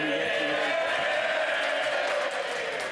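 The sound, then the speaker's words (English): Sustained applause from the opposition benches in Parliament during a debate on a bill, a steady, dense wash of many hands clapping at even loudness throughout, with no one speaking over it. “That applause came from the opposition benches.”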